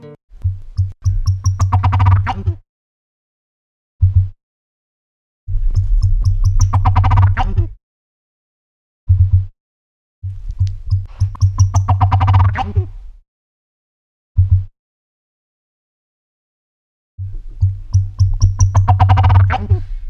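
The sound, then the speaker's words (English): An ocellated turkey, a large game bird, calls repeatedly: four long, loud gobbling phrases, each separated by a single short note and brief pauses, with no voices. “let me turn to my conversation about ocellated turkeys and the difficulties of doing field research in the jungles of Mexico”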